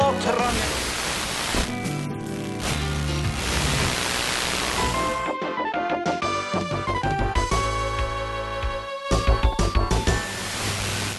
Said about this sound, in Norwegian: Faen, nå regner det. Det er noe så jævlig av det, da.